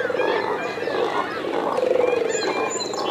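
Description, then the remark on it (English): A dense colony of cormorants croaks and grunts continuously, many rough, guttural calls overlapping into a loud chorus with no pauses and no talking. “Their croaking, grunting cries sound more like pigs or reptiles or aliens, anything but birds.”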